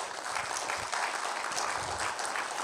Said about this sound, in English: Y'all just give her one more round of applause.